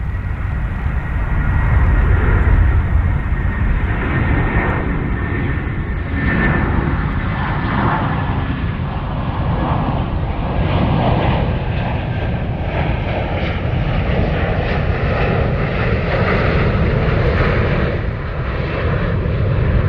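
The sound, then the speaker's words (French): A loud, steady roar of airplane engines fills the whole stretch, dense low rumble with a broad hiss on top, as aircraft pass overhead one after another with no voices. “il y avait quelque chose d'un peu étonnant avec ces avions qui passaient au-dessus”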